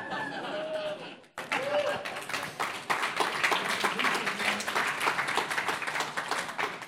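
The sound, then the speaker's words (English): A soft round of applause from a crowd, steady scattered clapping lasting several seconds at moderate volume, with some faint voices and murmuring mixed in at the start. “Nice soft round of applause.”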